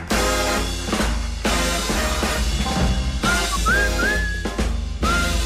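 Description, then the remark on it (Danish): A whistled melody with gliding, rising notes drifts over a full, loud music backing; the whistling comes in partway through and repeats a short phrase. “hader, når nogen fløjter.”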